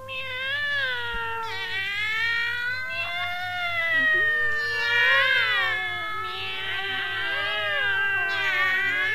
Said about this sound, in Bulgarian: Но какво е това безобразие? Какви са тези котки пък сега? Не можем да спим от тях.